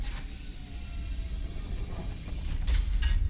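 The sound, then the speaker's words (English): A door being opened to go outside: mechanical rattling and clicking over a steady low rumble and hiss, ending with a couple of sharper metallic clacks as the latch releases. No one speaks. “I'll open the door.”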